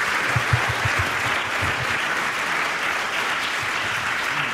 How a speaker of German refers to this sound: Herzlichen Dank, ist ein Applaus wert, finde ich.